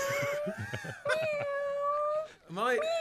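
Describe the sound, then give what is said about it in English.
A human voice imitates a cat, drawing out long wavering meow-like tones, one sustained cry followed by a rising, sliding call near the end, fairly loud. “because that's a really rubbish cat”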